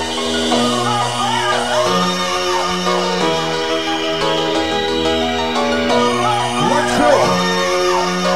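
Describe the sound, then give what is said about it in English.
A loud crowd inside a venue cheers and whistles continuously, with rising and falling whistles and whoops cutting through, over a steady low musical drone that shifts pitch every couple of seconds. “if you got a whistle inside the venue, let me hear it!”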